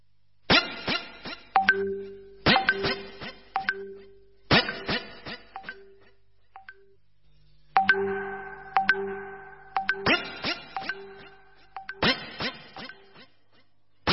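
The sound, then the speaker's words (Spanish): A phone's message notification chime rings out repeatedly, bright tinkling tones in short clusters every couple of seconds, with a brief pause midway and no talking. “Ese poder del sonido es lo que te hizo mirar el celular cuando escuchaste ese aviso de mensaje.”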